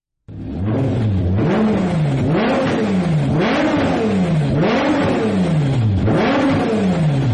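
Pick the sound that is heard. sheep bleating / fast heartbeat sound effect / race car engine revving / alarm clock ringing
race car engine revving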